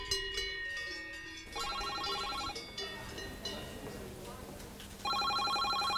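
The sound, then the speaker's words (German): Busy open-plan office ambience at a construction staffing agency in Switzerland, with a telephone bell ringing in repeated bursts, a second phone trilling near the end, over a steady murmur of background chatter and office noise. “Die Schweiz vom Robert Reinhardt tönt noch Grossraumbüro”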